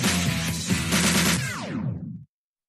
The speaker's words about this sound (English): Friday night fireworks blasting off here at Cheney Stadium right now.